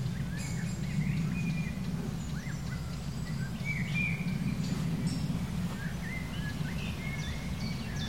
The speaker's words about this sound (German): Und den Specht hören wir. Spechte sind aktiver auf jeden Fall als heute Morgen. Und viel zu hören. Ticks, ticks, ticks, ticks, ticks.